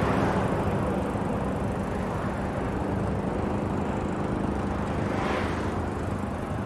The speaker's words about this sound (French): Ça me rappelle mon père. Cette tondeuse, pardon.